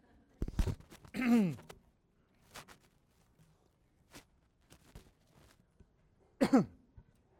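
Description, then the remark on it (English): Muffled throat clearing by a speaker who has suddenly become clogged up without having a cold, turned away from the microphone: a rough guttural burst near the start, scattered soft rustles and breaths, then one more raspy clearing toward the end. Nobody speaks. “And I don't want to clear my throat with this microphone. So give me a second.”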